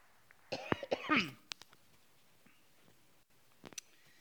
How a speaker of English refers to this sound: I'm going to cough, Betty.